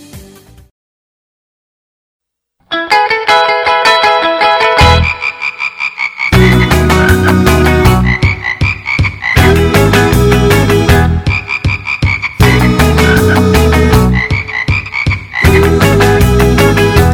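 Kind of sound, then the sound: animal, frogs croaking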